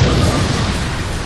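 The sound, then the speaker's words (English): A rocket strikes a PT boat amidships, punching through the hull and detonating with a loud, roaring blast, a dense wall of rumbling noise that holds steady for more than a second without fading. No voices are heard. “The rocket hit the vessel amidships, punching through the hull and detonating.”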